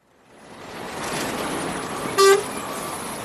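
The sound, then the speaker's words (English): A steady roar of busy highway traffic just outside Nairobi, Kenya, by a truck stop with a row of parked trucks, swells in and holds, with one short, loud honk of a vehicle horn cutting through near the end. “Next to a busy highway just outside Nairobi, near a row of parked up trucks”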